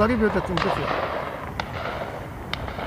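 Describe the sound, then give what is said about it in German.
Three or so sharp gunshot cracks ring out at irregular intervals over a dense rumble of crowd noise and indistinct voices. “Waren das Schüsse? Das war ein Schuss.”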